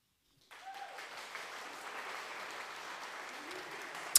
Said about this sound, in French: J'essaie de m'applaudir. Là. M'applaudis.